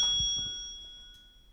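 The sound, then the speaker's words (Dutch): A single bright bell chime rings out on its own, its clear, steady tone slowly fading over about a second and a half, like a cue to turn the page. “Hoor je een bel? Sla dan de bladzijde om.”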